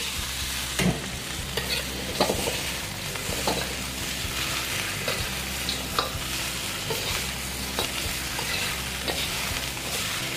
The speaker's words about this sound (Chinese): 好，稍微爆香了以后，我们就可以把我们的猪放进来，好，然后把它稍微翻一下，好，让它跟姜先稍微吸收一下。